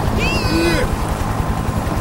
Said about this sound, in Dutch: Er hing iemand uit de helikopter, aan een kabel. Hij zag langzaam naar beneden.